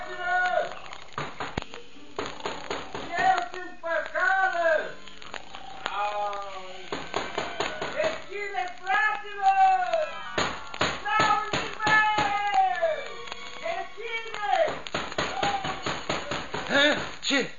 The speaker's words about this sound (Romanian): Frate meu, bate cineva în ușă. Cine-o fie acum la miezul nopții?